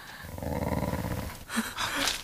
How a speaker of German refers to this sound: Da war jetzt aber wirklich was. Ich hab's auch gehört. Wölfe.